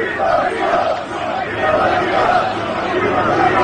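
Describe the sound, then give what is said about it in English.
A large crowd of union workers chants at a construction site in Midtown Manhattan near Trump Tower, in a steady, rhythmic cadence, many voices merging into a loud, continuous roar of repeated phrases with no single voice standing out. “So you can hear those chants.”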